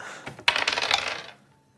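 Game dice are rolled again across a hard table in a quick burst of rattling clicks, tumbling for about a second before settling. Fairly loud, with no voices.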